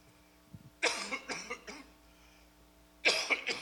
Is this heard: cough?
yes